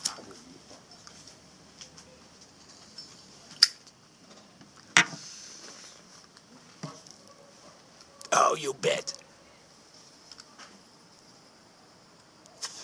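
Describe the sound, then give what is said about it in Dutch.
A lighter is flicked to light a pipe: a few sharp, spaced clicks, then a short raspy burst of striking, over a quiet hiss with no one talking. “Het probleem is dat je met een Zippo, zo'n pijpje als dit, kan je niet aansteken.”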